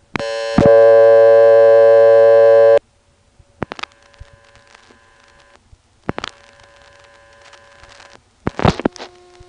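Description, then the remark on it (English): A telephone line rings with a double ring: one loud, buzzy tonal ring lasting a couple of seconds, then fainter repeated tone bursts with clicks and line static. No one speaks. “And now let's call that same phone line we called and sat on before and make it ring with a double ring.”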